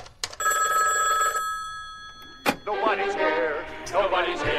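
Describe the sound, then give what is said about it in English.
A telephone call made from jail rings once with a fast, trilling electronic warble, then cuts off as a tinny novelty answering-machine recording starts talking over the line, as if heard through a handset. “Okay, Flash. You get one phone call.”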